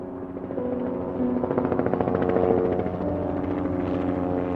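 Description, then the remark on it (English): Mayo 1, an emergency medical helicopter dispatched from St. Mary's Hospital in Rochester, flies overhead with a steady, rhythmic thump of rotor blades and a droning engine whine, loud throughout, with no one speaking. “Mayo 1 is an emergency medical helicopter.”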